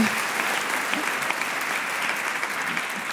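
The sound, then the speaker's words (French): A crowd claps steadily, a dense wash of overlapping handclaps holding an even level throughout, loud, with no voices standing out. “Et ça, ça s'applaudit.”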